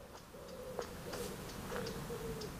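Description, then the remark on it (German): Soft, low cooing from a pigeon in a forest, a few drawn-out hoots repeating over steady background hiss, with faint clicking sounds scattered between them. “Ach, wie schön, hast du den Vogel gehört?”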